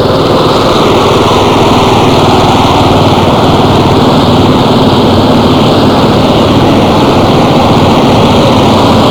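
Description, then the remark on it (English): A line of police motorcycles drives past on a road in a park, their engines droning loudly in a continuous buzzing roar that holds steady throughout with no pauses and no voices. “Line of police coming by right now on motorcycles.”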